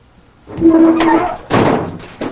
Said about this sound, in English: Later, Billy closes the back doors of the truck.